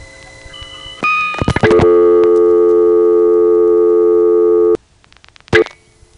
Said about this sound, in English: And while we're at it, here's the way this same dial tone would sound if we were calling from an old-fashioned 3-slot payphone.